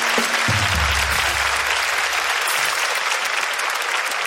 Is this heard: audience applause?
yes